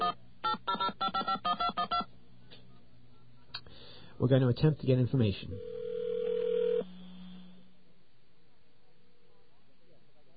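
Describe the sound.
A quick run of about eight touch-tone beeps on a phone line, then a man speaks briefly before a steady telephone tone hums for a second or so and fades.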